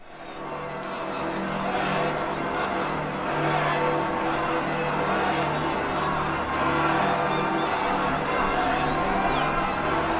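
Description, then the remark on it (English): A vast outdoor crowd in St. Peter's Square roars and cheers continuously as it reacts to the election of a new pope, a dense, loud wash of many voices sustained throughout with no single speaker standing out. “Let's listen to sounds from St. Peter's Square as the crowd reacts.”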